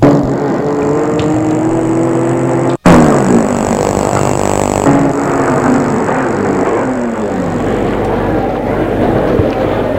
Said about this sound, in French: Cliff a réussi à se garer sa voiture. Ils sortent de voiture.